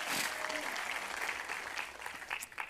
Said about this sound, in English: Everybody clap at Jeff. He's right there.